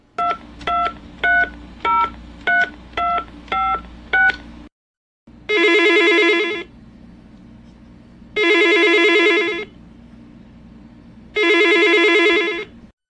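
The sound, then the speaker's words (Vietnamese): A quick run of phone keypad tones is dialed, then three long ringback rings sound at a steady pace with pauses between them, clear and close, with no one speaking. “Rồi, mình gọi điện thoại nha.”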